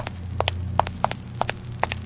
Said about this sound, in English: You are just a bit too close there. It plays a nice heartbeat noise. So we're going to leave that on.